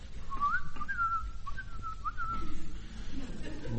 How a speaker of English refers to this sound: But you were whistling the wrong song, you know.